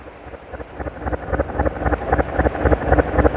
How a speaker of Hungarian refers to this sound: a hajó! Vigyázz, egyenes ránk! Ugorj!